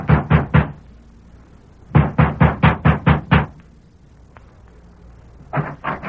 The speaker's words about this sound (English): Sheriff Ramsey has just dismounted before the ranch house of Alva Carlson and is knocking at the door.